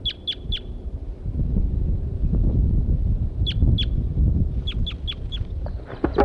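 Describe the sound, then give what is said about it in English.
Wild birds give sharp, high chirps in short bursts of two to four, repeating over a constant low rumble, with a few fainter calls scattered between the bursts. “There the birds go.”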